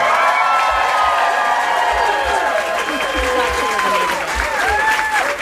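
A crowd erupts in loud, sustained screaming and cheering, with high whoops and shouts soaring over steady applause for the whole stretch.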